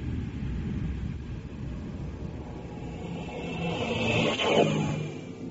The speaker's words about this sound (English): Switch the gyro stabilizer. Start the reactor jets.